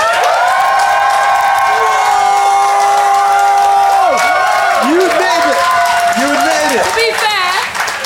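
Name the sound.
audience applauding and cheering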